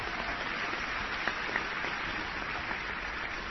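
Steady applause from an audience applauding themselves for their past year of hard work at a nonpartisan event, a dense crackle of many hands clapping at once, holding an even level with a few sharper claps standing out and no one speaking.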